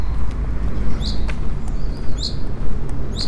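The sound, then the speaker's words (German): A bird gives short, sharp chirps every second or so over a steady low outdoor rumble; no one speaks. “Ja, hier zwitschern die Vögel.”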